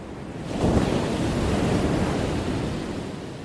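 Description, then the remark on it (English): Ocean waves break on the shore, a broad rushing wash that swells after the first half second and then rolls on steadily, with some wind noise mixed in and no voices. “if you've ever listened to this show before, I'd hazard to guess that you've heard the sound of ocean waves.”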